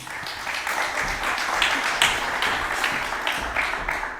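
A crowd applauds steadily, a dense wash of many hands clapping at a fairly even loudness for about four seconds, with no voices standing out.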